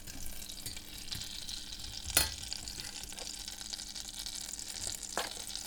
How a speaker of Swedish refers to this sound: Nu är det dags att göra såsen, eller stuvningen. Smält smör i en kastrull och vispa ihop med lite vetemjöl.